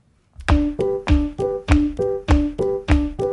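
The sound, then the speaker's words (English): About ten loud, evenly spaced foot stomps in a steady quick rhythm, each a heavy thud with a short hollow ring, with no one talking. “Okay, so stomp your feet like this.”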